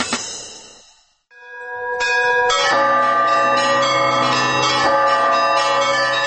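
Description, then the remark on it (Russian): Loud, festive church bells in Kirov, Russia, marking the start of the Velikoretsky religious procession, ring in overlapping peals, a brief lull giving way to a full, sustained clamor of many bells sounding together, rich with lingering resonance. No voices. “Праздничным колокольным звоном начинается в Кирове Великорецкий крестный ход.”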